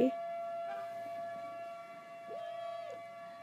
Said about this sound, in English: More sirens though.